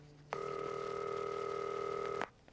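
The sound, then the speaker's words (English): A single telephone ring, one steady electronic tone that starts abruptly, holds for about two seconds and cuts off cleanly, heard alone with no voices. “Oh, I'm really glad you answered the phone.”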